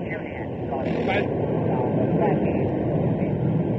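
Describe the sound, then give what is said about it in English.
Concorde, a supersonic jet, roars at takeoff, a loud, continuous blast of engine noise with a steady high whine riding on top, while a voice is faintly audible beneath it; the white delta-winged aircraft lifts off against grey clouds, brown smoke pouring from its engines. “describing the exciting takeoff of Concorde this morning”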